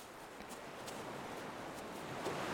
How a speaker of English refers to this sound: Isn't that ocean spectacular?